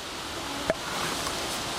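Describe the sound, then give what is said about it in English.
A male bear's tongue click, made when approaching a female: one sharp, hollow pop that rises briefly out of a steady, windy hiss, with no voices present. “This is tongue clicking.”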